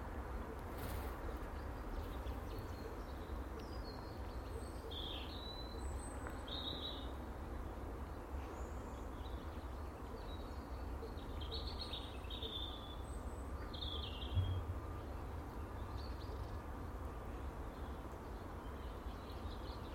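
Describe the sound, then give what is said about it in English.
Scattered bird chirps and short tweets ring out over a steady, broad outdoor rumble, with calls coming irregularly throughout. “I just closed my eyes, listening to the birds, nature.”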